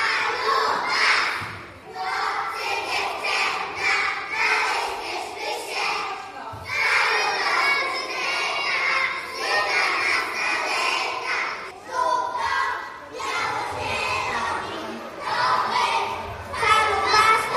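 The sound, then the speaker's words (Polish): A crowd of young speedway fans, children shouting and cheering, loud and nearly continuous, their high excited voices overlapping in waves with only brief dips in volume. “Momentami było głośno, nawet bardzo głośno. No jak na stadionie.”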